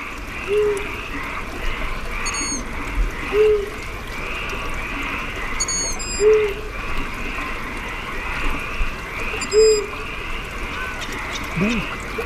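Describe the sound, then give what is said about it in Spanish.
An owl hoots four times at slow, steady intervals, soft, over a constant outdoor hum with a few high, brief bird chirps, among misty trees and dripping lichens. “Bú, dice el búho, chico.”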